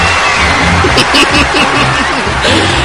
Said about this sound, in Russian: верно, аплодисменты, дамы и господа, ведь так виртуозно простроенную речь просто невозможно выиграть аплодисментами, верно, прошу вас, спасибо, родине, спасибо.